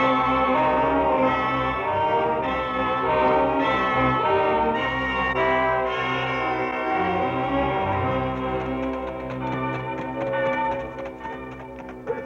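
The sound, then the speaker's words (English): A prison alarm bell rings loudly and without pause for about twelve seconds, its metallic tones layered and sustained, with a flurry of quicker strikes near the end. No voices. “That's no church. That's the alarm bell at the prison.”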